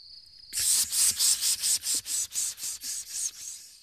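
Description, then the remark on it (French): A cicada sings: a thin high whine gives way to loud, harsh, rhythmic buzzing pulses, about a dozen in steady succession, with no voices. “Mais oui, c'est une cigale.”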